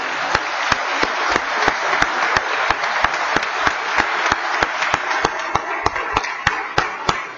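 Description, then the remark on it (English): An audience in a General Assembly chamber applauds the staff steadily for several seconds, a dense wash of clapping with one sharp, loud clap standing out in a regular rhythm, about three per second, and no talking. “Would y'all please join me, in fact, in thanking all of our staff and the good job they do.”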